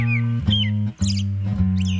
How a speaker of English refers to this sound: Whatever the cause, birds singing at night are one more thing, like rumbling trains and passing cars, that city dwellers learn to sleep through.